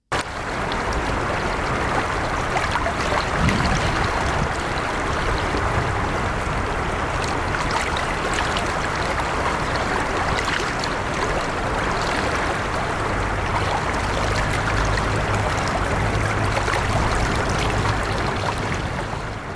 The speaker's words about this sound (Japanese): 最後は音で伝える盛岡のコーナーです。今日は春の中津川のせせらぎをお届けします。